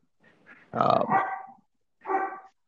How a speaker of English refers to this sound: So, sorry, the dog's barking in the background. I apologize.